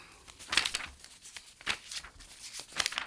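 Papers rustle and crinkle in a few quick bursts, pages being shuffled and flipped with brief pauses between handling sounds, as a speaker searches for a particular piece of paper.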